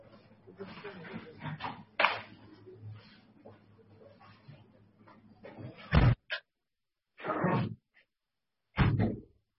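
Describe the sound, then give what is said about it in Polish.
A door is closed during a meeting to cut background noise: it swings shut with a solid thud, and the murmur of background voices and noise drops away, followed by a few more short clunks and bumps in the sudden quiet. “Okej, dobrze, może zamknę drzwi.”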